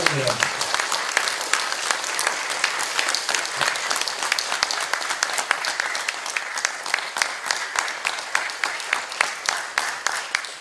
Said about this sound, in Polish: Szanowni bracia i siostry, te brawa są dla mnie absolutnie niezasłużone.